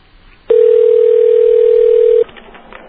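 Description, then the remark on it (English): A loud, steady telephone dial tone hums at one low pitch for nearly two seconds, then cuts off, followed by a few faint clicks as a Suffolk County number is dialed without an area code by WUSB Radio, Stony Brook, New York, for an election opinion poll. “Which means I don't have to dial an area code.”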